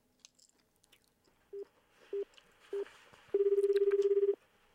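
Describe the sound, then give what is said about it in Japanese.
A phone call to a home in Sagamihara, Japan rings out: three short electronic beeps, then a long warbling ring tone lasting about a second, clear over faint background noise. “電話できるってこと？ していいの？ してみる？”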